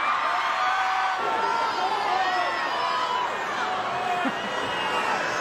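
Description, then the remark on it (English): A concert crowd cheers loudly and steadily for several seconds after a gender reveal on stage announcing a girl, a dense wash of overlapping voices with rising shouts and whoops scattered throughout, no single speaker standing out. “Yeah, everybody's so cheering and all that stuff.”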